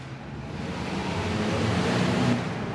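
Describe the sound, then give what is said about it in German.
A steady, dense roar of city traffic at Escherwiesplatz in Zürich, with cars and heavy trucks rumbling past, traffic on the Hartbrücke bridge above and trams crossing the square. It swells slightly midway, with no voices and no pauses in the continuous wash of noise. “Oben auf der Hartbrücke braust der Verkehr, rundherum kreisen Autos und Lastwagen, Trams queren den Platz.”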